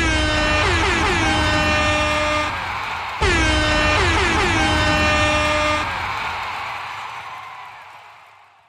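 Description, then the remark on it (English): A loud air horn blares in two long, sustained blasts with a brief break between them, its brassy pitch wavering before the sound fades away. No one speaks. “And here, as always, is the air horn.”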